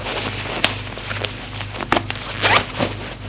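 clothing zipper

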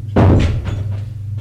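door closing

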